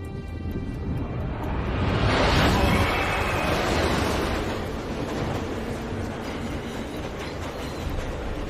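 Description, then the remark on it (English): A loud, rushing roar of a train racing through a tunnel, swelling to a peak early on, then holding as a steady, rumbling hiss with no voices. “The train screams through a tunnel.”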